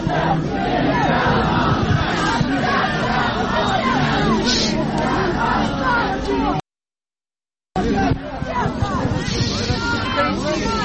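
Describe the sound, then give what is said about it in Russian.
A large protest crowd chants and shouts together, demanding the authorities' resignation, a loud, dense wall of many voices that carries on steadily, cuts out to silence for about a second, then resumes. “но вот уже можно слышать, начались крики, люди требуют отправить властей в отставку.”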